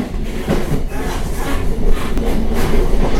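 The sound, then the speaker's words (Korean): A Gyeongui Line special train carrying separated families rolls steadily along the rails toward Dorasan Station in South Korea, its wheels producing a continuous low rumble with faint clickety-clack beats, fairly loud with no talking. “드디어 경의선 특별열차가 도라산역을 향해 달리기 시작했습니다.”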